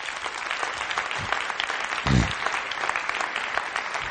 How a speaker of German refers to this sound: Gib dir mal einen Beifall.